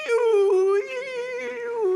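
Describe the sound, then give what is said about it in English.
A voice imitates an AOL dial-up modem connecting: a sustained, nasal, whining tone for about two seconds, holding a steady pitch with slight wavers and a brief dip partway through. “It's amazing to think of how you can get the gospel to someone via this, well, like the, remember the dial modem you used to do with AOL?”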